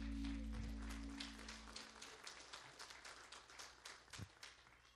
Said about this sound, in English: Amen. Let's give the Lord another great hand clap of praise.